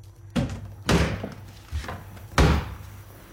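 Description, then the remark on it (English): A pantry door slams shut after a cockroach flies out, with heavy, booming thuds: three loud bangs spaced unevenly, plus a softer knock between them, over a faint steady low hum. No one speaks. “A cockroach flies out and Will slams the door.”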